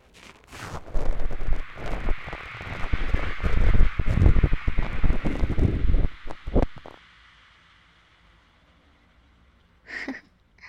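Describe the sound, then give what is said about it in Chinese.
Hydrogen peroxide fizzing on a wound: a dense, crackling hiss of popping bubbles for about six seconds, then it stops abruptly, followed by silence and one brief faint rustle. “哈，这么脆弱的地方，让双氧水在伤口上如此反应，你也算是个有勇气的人了。”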